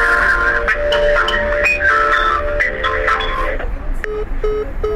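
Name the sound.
telephone keypad dialing tones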